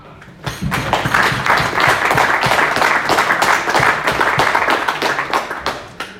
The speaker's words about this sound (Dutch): En ik wou toch nog even een klein applaus voor het hele team.